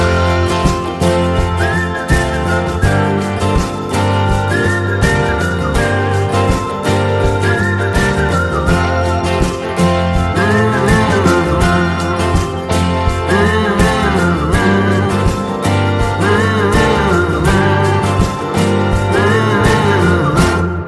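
A full band plays steadily while a whistled melody rises and falls above the accompaniment, loud and continuous throughout, with no talking.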